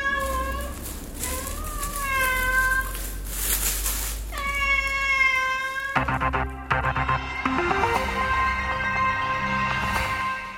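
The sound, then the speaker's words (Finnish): A four-month-old kitten, a gift from Russian President Dmitri Medvedev to President Tarja Halonen, meows several times with high, rising-and-falling cries. After a few seconds a steady, musical-sounding tonal passage takes over. “Kissanpentu on nyt 4 kuukauden ikäisenä luovutusikäinen.”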